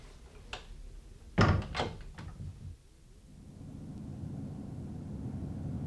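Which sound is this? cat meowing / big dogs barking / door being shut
door being shut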